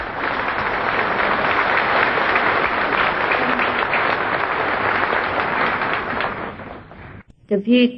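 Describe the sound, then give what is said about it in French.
An audience claps steadily for about seven seconds to welcome Master Ching Hai on her first official visit, a dense, even crackle of many hands. It cuts off abruptly, and a single voice starts speaking in the final moment. “Et j'aimerais que peut-être vous puissiez l'applaudir une fois avant de lui donner la parole.”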